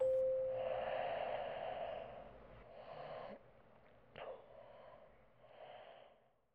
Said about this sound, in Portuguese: O livro, aberto, deslizou suavemente do colo até aos pés e o silêncio deu lugar a um gentil ronco.